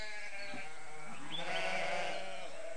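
Several dike sheep bleat in overlapping, wavering cries, a loud call rising over fainter ones, with a steady outdoor hiss behind and no voices, on the dikes along the Hunte river in and around Oldenburg, Germany; their bleating can reach up to 79 decibels.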